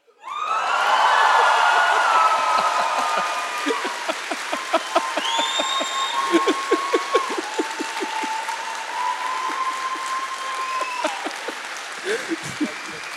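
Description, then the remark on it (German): An audience breaks into sustained applause, dense clapping that swells quickly and then continues steadily with a few louder individual claps, along with scattered cheers and whoops over the crowd. “das war der Applaus für dich.”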